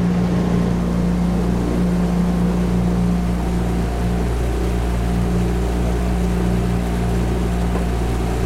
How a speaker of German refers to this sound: Und dann durch das Boot natürlich auch die Motorgeräusche, aber auch dieses kleine Plätschern hat. Es fühlt sich so ein bisschen fast an, als ob man auf einem stillen Meer wäre.